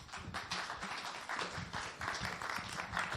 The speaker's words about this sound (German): Einen kräftigen Applaus für Max Schrems.